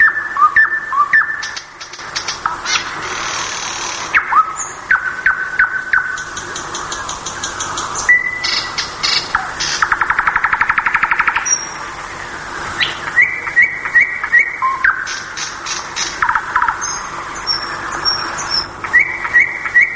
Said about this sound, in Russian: Так вот, смысл ночного пения соловья заключается в том, он сообщает другим самцам своего вида, что здесь удобное место для обитания.